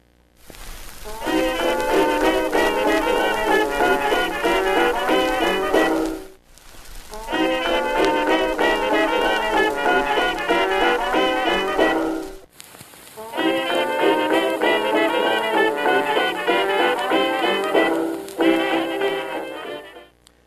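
Three short excerpts of the same music played back-to-back from three different vinyl records, each adjusted using the pink noise method, each about six seconds with brief silent gaps between, steady in loudness, with faint crackly surface noise underneath.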